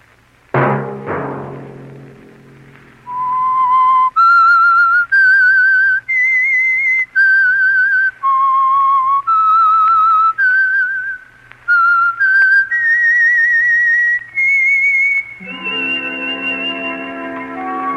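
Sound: whistled theme tune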